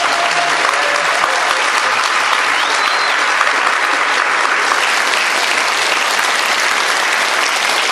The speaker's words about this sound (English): Well, you can clap. Please clap.